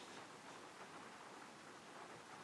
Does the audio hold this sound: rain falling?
yes